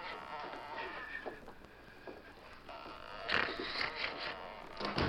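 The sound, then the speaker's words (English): A cabin door opens and then shuts a second or so later, two short knocking bursts over a steady, muffled background hum, fairly quiet. “He failed to hear the cabin door open and close.”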